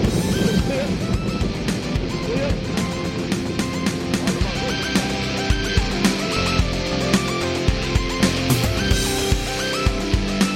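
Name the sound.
rocket launch engine roar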